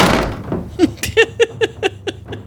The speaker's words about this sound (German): Er macht die Tür zu.